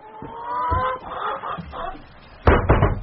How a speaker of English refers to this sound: Now, these ones here are the chickens Mr. Sowerby raised for slaughter. For eating. Oh. Best chickens in county.